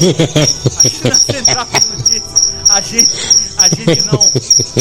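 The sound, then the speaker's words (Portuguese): A cricket chirps steadily in a bedroom, a shrill, high-pitched trill pulsing in quick repeated bursts. A person talks over it, and the chirping continues beneath the voice throughout. “Um grilo cantando bem aqui no meu quarto.”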